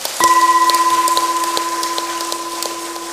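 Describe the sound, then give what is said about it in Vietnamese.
A crowd claps steadily for about three seconds, a dense crackling wash of many hands, with a steady electronic hum or feedback tone running underneath. “Nếu quý vị hoan hỷ với chủ trương này đó, thì hãy cho một tràng pháo tay thật lớn.”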